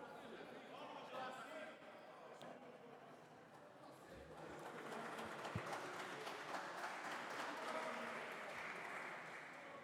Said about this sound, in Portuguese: Estes aplausos são o pronúncio para a intervenção do Sr. Deputado João Marques, a quem reitero a palavra.